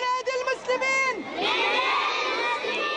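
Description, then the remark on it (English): A crowd of Palestinian children in Gaza City chanting and shouting together in protest, high-pitched voices rising and falling in loud overlapping cries that swell into a sustained collective yell. “In Gaza City today, Palestinian children chanted in protest.”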